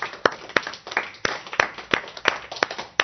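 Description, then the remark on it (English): Hands clap about ten times in a fairly steady rhythm to break the tether in a guided exercise, each clap sharp, crisp and moderately loud, with no talking over them. “Okay, clap a few times to break the tether.”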